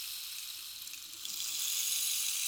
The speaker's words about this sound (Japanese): 次はこれ。綺麗な音。まるで雨音のようだろう。これはレインスティック。